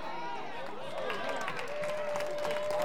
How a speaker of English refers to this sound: Clap your hands right now. Clap your hands.